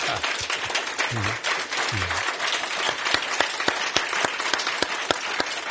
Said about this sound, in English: How about a gigantic round of applause